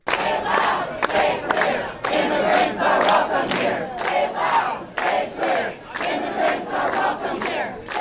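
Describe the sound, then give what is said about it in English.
A large protest crowd chants loudly in unison outside Los Angeles International Airport in the afternoon, protesting a ban on refugees and on people from six Muslim-majority countries entering the U.S.; voices rise and fall in a steady, driving rhythm of repeated shouted phrases with brief gaps between them. “Throughout the day, protests continued around the country.”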